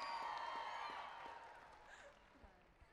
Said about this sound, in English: The Easter Bunny is here. Give Easter Bunny a big round of applause.